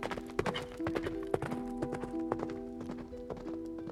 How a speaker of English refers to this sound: She mounted her horse and headed for the castle, ready to face her father once again.